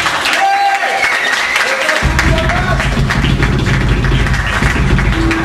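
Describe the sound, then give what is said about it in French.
Sustained concert audience applause for a band and all the bands playing that day, dense and steady clapping throughout, with a low rumble swelling in after the first couple of seconds and faint overlapping voices beneath. “Je vais demander un petit applaudissement pour toi, pour …, pour tous les groupes qui sont là aujourd'hui, pour messieurs … aussi qui vont jouer tout à l'heure.”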